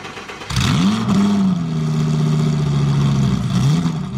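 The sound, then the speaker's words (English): A NASCAR stock car engine roars to life and holds a loud, steady, dominant drone with rising and falling pitch, with no voices present. “The fearless driver of the roaring car is an American folk hero.”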